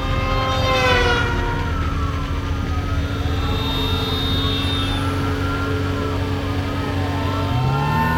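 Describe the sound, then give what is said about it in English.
Sirens of five police cars wail at once, their rising and falling tones overlapping loudly over a steady low rumble of engines, as the squad cars give chase. “Can we outrun 5 cop cars?”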